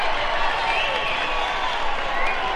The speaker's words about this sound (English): All right. How about a nice big round of applause from WIBG, Long John.